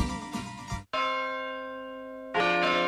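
Church bells ring out loud, one clear strike humming into a long, shimmering decay before another peal cuts in, with busier overlapping ringing at the start.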